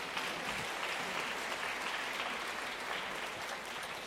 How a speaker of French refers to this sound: Oui, vous pouvez les applaudir.